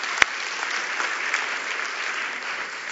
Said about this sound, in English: Hey, give them a round of applause. Woo.